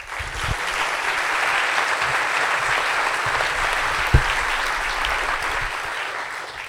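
Steady applause from an audience welcoming a guest speaker fills the whole stretch, a dense wash of many hands clapping at an even, fairly loud level, with one brief sharper knock partway through.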